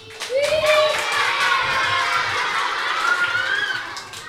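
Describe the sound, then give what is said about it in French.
A group of children laughs and shouts in high voices while clapping steadily, a dense, lively burst of noise that carries on for several seconds before easing off. “Est-ce que les enfants, vous avez envie de rire, d'applaudir, de vous faire les deux en même temps ?”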